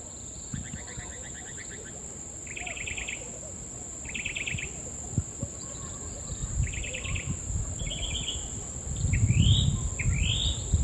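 Several birds call over a steady buzzing insect drone: repeated rapid chirp trills and a few rising whistled notes, with low rumbling background noise growing louder toward the end.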